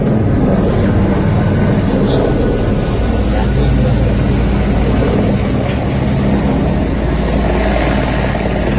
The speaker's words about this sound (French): L'hélicoptère. Il va sur la piste.